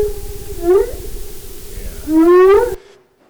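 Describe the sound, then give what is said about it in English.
Underwater fin whale calls (a rorqual): a steady low pulsing throb runs beneath two rising, moaning tones, the second louder and longer, before the sound cuts off abruptly. “this pulsing that was going on, kind of and that was actually, it's in the Rorqual family, that was a fin whale, but it's related to these guys here, the minke whale.”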